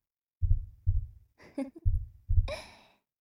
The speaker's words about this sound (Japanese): 緊張しているのかしら。心臓のこと、とても早いわ。ドクドク脈動しているのが私にも伝わってくる。